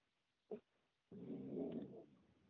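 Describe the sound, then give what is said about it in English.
A dog barks somewhat faintly at a mail carrier: one short bark, then a longer, rough, growling outburst lasting about a second, with no one talking. “My dog is barking at the postman.”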